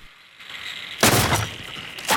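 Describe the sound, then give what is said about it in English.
An axe head suddenly pierces flimsy wooden fence panelling and someone smashes through: a sudden loud crashing impact after a quiet stretch, then splintering, rattling debris, then a second sharp hit near the end. “An axe head suddenly pierces the flimsy panelling and Wilfred smashes his way through”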